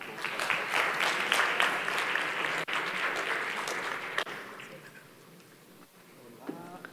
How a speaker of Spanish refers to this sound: Les pido un aplauso, por favor.